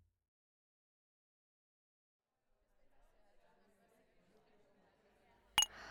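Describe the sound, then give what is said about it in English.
Glasses clink together once in a sharp, bright toast near the end, after a few seconds of quiet and then soft background chatter. “Cheers. Here's to surviving another day in his mad fucking kingdom.”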